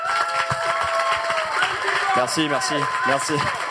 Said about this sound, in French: Ah, donc là, c'est carrément un TED Talk. Voilà. Et j'aimerais avoir des applaudissements à la TED à partir de maintenant. C'est parti.